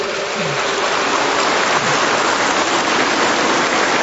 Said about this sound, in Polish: Dlatego brawa dla ciebie, gratulacje.